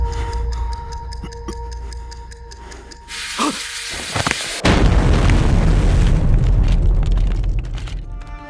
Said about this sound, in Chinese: 爆炸瞬间，杜富国下意识地倒向战友那一侧，阻挡飞来的弹片和伴随而来的强烈冲击波。